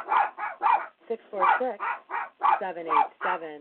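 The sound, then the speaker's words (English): A dog barks at home just after somebody has left the house, a rapid, uneven run of about ten sharp, high-pitched yaps, some ending in a whiny, rising tone, loud and with no one talking over it. “All right, dog break. Very adorable.”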